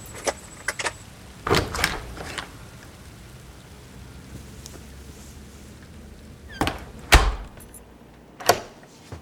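Keys jingle and a house front door clatters open in a few short bursts as someone comes in from walking in the rain, with steady rain pattering in the background and no one speaking.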